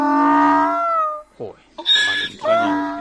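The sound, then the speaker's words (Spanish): A female donkey named Baldomera brays on meeting her owner, a long wavering tone that drops off, followed by a series of harsh, rasping heaves alternating between high and low pitches. “Baldomera, una burra que se ha encontrado con su dueño.”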